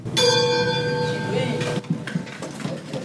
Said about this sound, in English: At Lehigh Junior High School, your not so average school bell begins class.